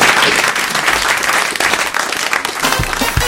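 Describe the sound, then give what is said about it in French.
A studio audience of the Europe 1 radio show On va se gêner bursts into sustained applause for a guest, a dense, loud wash of many hands clapping at once, steady throughout with no voices standing out. “Et on vous remercie, on vous applaudit.”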